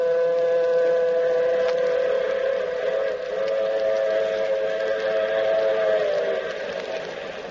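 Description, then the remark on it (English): The Blue Comet passenger train races across the flatlands of the Southwest, rolling along the rails with a steady rumble while its horn holds a long, loud chord, sagging slightly in pitch before easing off at the end. No voices. “Yes, and the train. The shiny metal serpent racing across the flatlands of the Southwest.”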